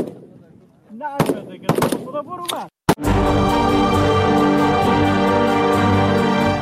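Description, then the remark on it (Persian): Several sharp, loud gunshots crack at irregular intervals while voices talk, as Afghan women serving in the Afghan forces shoot at targets at a firing range, then steady music takes over. “با آن هم این زنان بی توجه به آینده ناروشن تلاش دارند تا گلوله هایشان به هدف بخورند و برای کشورشان تأمین امنیت کنند.”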